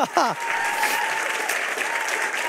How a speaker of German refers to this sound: unsere Täuflinge, vielleicht nochmal einen fetten Applaus.